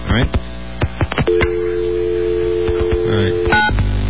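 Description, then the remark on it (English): Telephone dialing tones while calling an 800 number with a donated calling card and code: a quick run of short beeps, then a long steady two-pitch tone held for about two seconds, followed by a few more brief tones and clicks. “Someone donated another a card to us that supposedly will allow us to call 800 number. So we're going to try that.”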